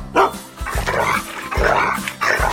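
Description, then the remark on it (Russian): A dog, Altai, barks in greeting, repeatedly in a quick, uneven series of sharp, mid-pitched woofs with brief yips mixed in, loud and without any talking. “А это мой верный Алтай спешит с вами поздороваться.”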